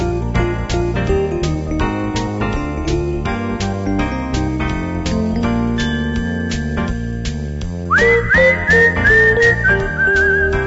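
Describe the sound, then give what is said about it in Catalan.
A clear, high whistled melody rises over a steady instrumental backing with a plucked, rhythmic accompaniment, the whistling growing loud and prominent in the final few seconds. “Tot el mèrit del món, … i Xiulet”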